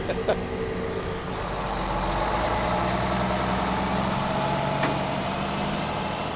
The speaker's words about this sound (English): And then a white and green truck here to our right is loading propane and butane mix, and that actually is exported to Canada, I'm ashamed to admit.